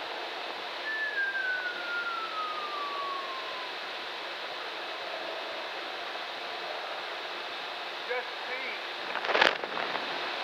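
A person whistles one long, smoothly falling note over a steady background hiss, followed later by a few faint chirps and a brief, sharp crackling burst.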